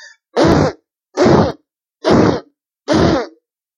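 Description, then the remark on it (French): Four loud, blustery fart sound effects, standing for a wolf blowing hard with its rear end in a told fairy tale, in a steady, evenly spaced sequence, each a rough, sputtering blast about half a second long, separated by short silences, with no talking. “Mais le loup souffla si fort avec son derrière que la marmite fut renversée”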